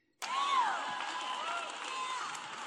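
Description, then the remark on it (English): An audience snapping their fingers as poetry snaps starts abruptly and carries on as a dense, steady crackle, with a few rising vocal whoops and murmurs mixed in. “Poetry snaps.”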